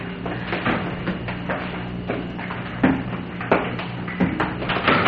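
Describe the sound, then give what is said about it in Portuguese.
Several irregularly spaced knocks on a bedroom door, moderately loud, over a steady low background hum. “Estão batendo a porta do quarto.”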